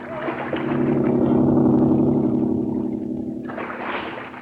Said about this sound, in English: that driverless boat, it's heading toward us again. Quick, a deep dive.